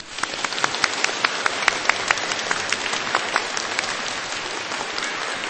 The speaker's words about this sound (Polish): Bardzo dziękujemy, a naszą wdzięczność księże proboszczu wyrażamy przez gorące oklaski.